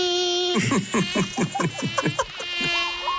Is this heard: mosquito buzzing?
yes